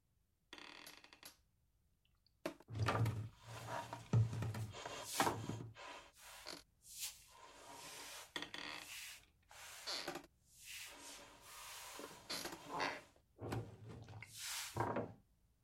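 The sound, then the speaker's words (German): Isolated pianist noises: irregular soft thumps, clicks and key-action knocks, some with a low resonant body, coming in uneven clusters with no voices and no clear notes. “Dann gibt es noch den Pianisten. Hören wir uns das mal alleine an, die Noises.”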